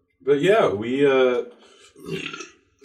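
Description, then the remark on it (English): A long, loud burp, drawn out for over a second with a wavering, throaty pitch, followed by a shorter, rougher gurgle after a brief pause. “I burped in case it doesn't.”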